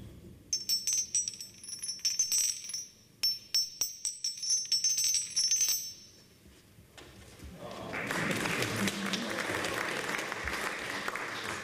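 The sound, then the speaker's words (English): The ridged, textured glass surface of the Rattle, a piece in the Museum of Glass, is stroked, giving a bright, rapid rippling of tiny glassy clicks with a high ringing shimmer in two close sweeps, followed by a broad, steady rushing noise like applause. “And by stroking the surface of this texture, you get this lovely rippling sound.”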